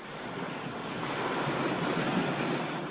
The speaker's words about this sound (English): We're breaking on a beach on the coast of St. Lucia in the Caribbean.